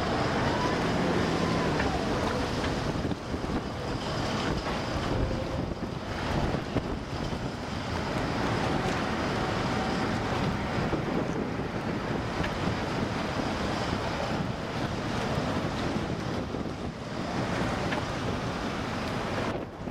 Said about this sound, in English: See, we're getting a lot of roly waves. Up and down.